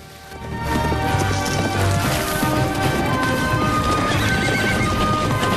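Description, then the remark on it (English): A herd of wild mustangs gallops across the countryside in a dense, continuous drumming of hooves, with loud neighs and whinnies rising over the pounding. No one speaks. “The Mustangs streak across the countryside”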